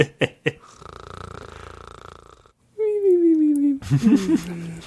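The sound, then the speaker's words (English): A voice imitates a cartoonish snore: a few clicks, a long raspy inhale, then a high whistling exhale sliding downward, followed by some vocal noise, fairly loud. “Gregory lay in his bed, sleeping and snoring cartoonishly.”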